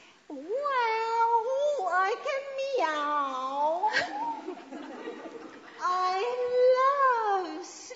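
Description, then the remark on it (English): A young girl's voice imitates a cat, drawing out several long, wavering meows one after another, loud, with a brief quieter pause before the last one. “Just because you can meow, and just because you've got hair...”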